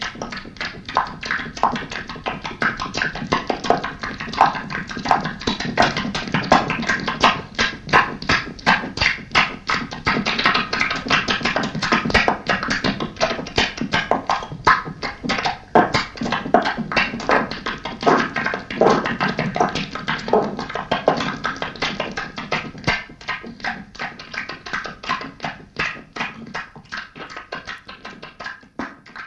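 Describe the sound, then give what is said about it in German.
Continuous rapid clapping and tapping on the body to create resonance and sound, an experimental recording made on cassette in the 1980s. It is fairly loud, a dense, irregular patter of hand strikes that barely pauses throughout. No voices are heard. “da gehörte für mich dann auch, weil Stimme gehört ja zum Körper, auch die Idee mit rein, also es war einfach fließend, dass wir vielleicht auch mit Klatschen oder mit Klopfen auf den Körper eine Resonanz erzeugen und damit auch Klang.”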